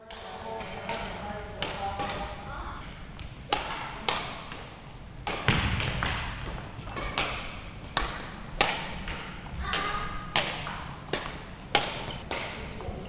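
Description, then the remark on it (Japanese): Sharp, irregular thwacks of shuttlecocks being struck by rackets ring out again and again, with squeaks and thuds of footsteps and children's voices murmuring underneath throughout practice by the Tamagawa Sports Youth Club badminton team in the Tamagawa Elementary School gymnasium on a Sunday morning, nine children on three courts. “日曜日の午前中、多摩川小学校の体育館で練習をしています。”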